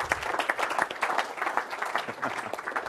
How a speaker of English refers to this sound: Let's give the Lord a big clap offering or something. You know, let's just do it.